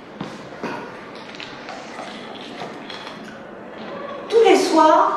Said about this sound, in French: Mais après quelques minutes, elle entend le grincement de sa porte et de ses pas dans le couloir.